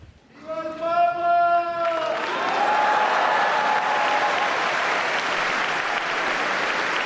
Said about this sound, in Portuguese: E o aplauso e o carinho dos fiéis ao Santo Padre ao final da audiência geral desta quarta-feira, 1º de maio, festa de São José Operário, início do mês mariano.